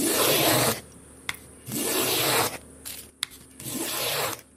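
Three long, steady rasping strokes of a hand plane shaving wood, each lasting about a second, separated by short pauses with a few faint clicks and knocks in between.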